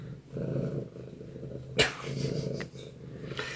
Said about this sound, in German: Hallo, komm mal, ich denke, so, schon, dass du hier an das Mikro schnurrst.